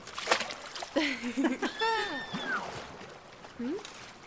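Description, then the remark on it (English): A few quick splashes and sloshes of water as people swim in an underground lake, followed by wordless voiced sounds from people, with the water movement fading under them. “if our splashing about is making this light, and it's just a little bit of light, then what's making that big light?”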